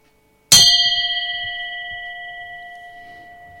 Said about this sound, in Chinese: 咁嗱，大家眯埋眼听下我哋嘅钟声先。